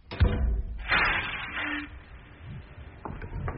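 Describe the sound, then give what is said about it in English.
A heavy cell door clanks, then grinds and scrapes open with a low metallic hum, followed by a few softer knocks and rumbles as it settles; no one speaks. “he doesn't know whether it is minutes or hours later that the cell door opens and Augustus Frost returns to lead him once more into the presence of that gaping and dribbling monstrosity, the head of Alcazan.”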